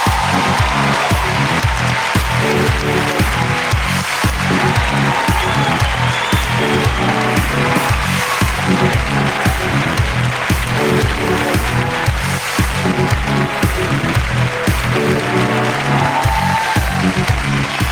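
An audience applauds steadily for about eighteen seconds to welcome guest Puppy Poison, Miss Simpatía of the first Drag Race España, a loud, dense wash of clapping hands that stays even throughout with no talking over it.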